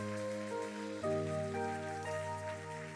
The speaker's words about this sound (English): See what the Lord is doing. Keep clapping, come on, come on.